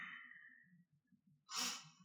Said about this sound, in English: As you inhale, inhale normally and exhale completely with that H-ah sound. If you know Ujjayi, you can do the full cycle. The full cycle would look like that on the inhale and the exhale, a breath through the throat.